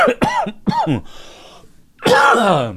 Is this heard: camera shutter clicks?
no